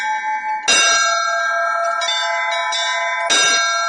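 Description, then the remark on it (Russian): Church bells ring loudly with bright, sustained metallic tones during a bell-ringing master class; two strong strikes, one early and one near the end, start fresh rings over a continuous resonant hum, with no talking. “Мастер-класс по колокольному звону в этот день пользовался особой популярностью.”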